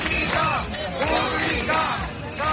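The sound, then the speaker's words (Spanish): A large crowd of about 250,000 people at a street protest in central Madrid in defence of public healthcare shouts and chants together in rising, swelling waves, including insults against president Isabel Díaz Ayuso, the many voices loud and dense. “Una manifestación en defensa de la sanidad pública, pero con tintes electorales. Gritos, incluso insultos, contra la presidenta Isabel Díaz Ayuso.”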